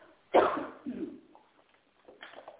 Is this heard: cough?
yes